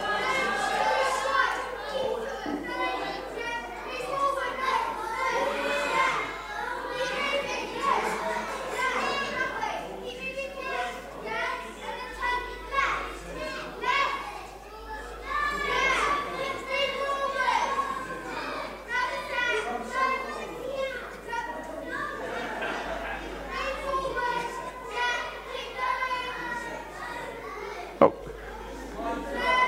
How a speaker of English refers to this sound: Come on, girls, you need to cheer a bit harder or a boys brigade are going to get this.